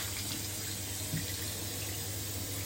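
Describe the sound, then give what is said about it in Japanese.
Cold water from a shower runs in a steady, unbroken hiss for the whole stretch, fairly loud, with no voices over it. “こんなシャワー難易度高かったっけ。”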